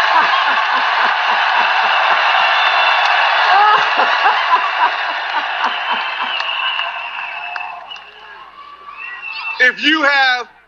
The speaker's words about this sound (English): if South Carolina is Trump country, let me hear you scream! Everybody's going wild. The president is smiling from ear to ear. He's loving it.